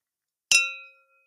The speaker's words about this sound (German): Lass uns kurz anstoßen. Süße, auf die Liebe. Der Motor. Und Antrieb. Für alles. Cheers. Prost, Prost. Auf die Liebe.